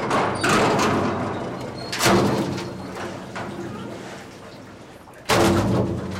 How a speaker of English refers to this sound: The fishing vessel Sea Hound docks at the Chatham Fish Pier on Cape Cod, Massachusetts, to unload her catch as a huge steel bucket swings down onto her deck.